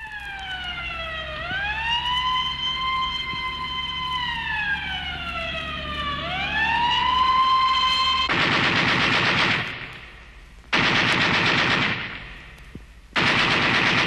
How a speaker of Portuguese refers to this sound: E quando um tiro de metralha fez um rombo no caixão, o contrabando pelas ruas escorreu.